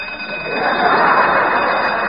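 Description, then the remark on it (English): A loud alarm clock rings continuously, a harsh, rattling bell that swells slightly and then holds steady for the whole stretch, with no voices over it. “Turn off that alarm clock!”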